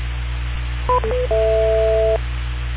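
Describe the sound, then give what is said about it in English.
A few quick electronic dialing beeps followed by a longer steady two-tone telephone signal, heard clearly over a low hum with no one speaking. “I have a phone call right now.”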